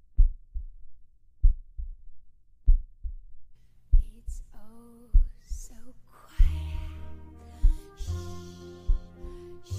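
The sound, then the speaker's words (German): A steady heartbeat thumps in soft, low double beats, alone at first; after a few seconds, swelling music rises and grows full while the pulse continues beneath it. “Unseren eigenen Herzschlag? Das Blut, das in unseren Adern pulsiert?”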